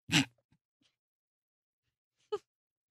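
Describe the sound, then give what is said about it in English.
A loud, sharp sneeze bursts out at the start, followed by near silence and then a brief, throaty vocal burst near the end. “Bless you.”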